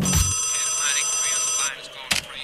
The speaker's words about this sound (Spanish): Vamos al WhatsApp. Llame al WhatsApp. Dígale que llame.